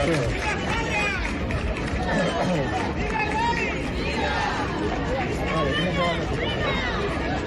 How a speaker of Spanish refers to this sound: Las calles de Guadalupe estaban llenas de gente para ver a los monarcas